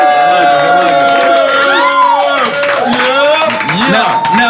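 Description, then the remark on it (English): A loud crowd cheers and shouts continuously, many overlapping voices whooping at varied pitches, with some clapping mixed in, staying at full volume from start to finish, cheering for Nick Cannon in the building. “Make some noise!”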